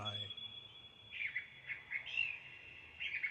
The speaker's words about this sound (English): The darkling thrush is this bird that sings.